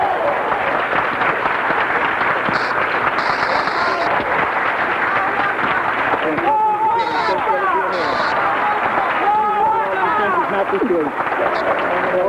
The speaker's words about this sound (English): So brothers and sisters, I'm not going to waste no more time on the air. Let's welcome and receive our brother with warm rounds of applause and sincerity